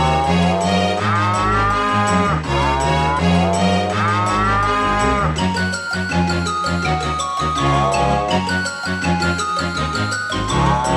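A cow moos several times in long, drawn-out calls, loud, layered over a steady, busy musical backing that continues throughout.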